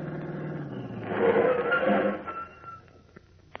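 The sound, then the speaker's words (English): A car engine rumbles closer, swelling louder for a moment before winding down and falling quiet as the car pulls up in front of a house, leaving a few faint clicks afterward. “Pulled up right in front of the house.”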